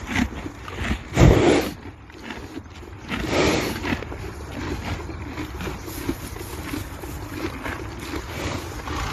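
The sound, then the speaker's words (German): A horse munching and crunching its feed, a stand-in recording of a different horse, a steady rustling, grinding chew that runs throughout, with one louder knock early on. No one speaks. “reinschneiden von einem anderen Pferd einfach. Denn das ist zwar nicht das echte, aber das würde wohl passen für euch.”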